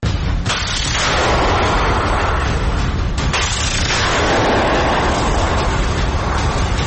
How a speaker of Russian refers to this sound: 22 марта в 80-й десантно-штурмовой бригаде со Львова сообщили, что в Николаевской области перехватили ракету, выпущенную российскими военными в направлении Крапивницкого. Пишут, что боеприпас уничтожен выстрелом из ПЗРК «Игла».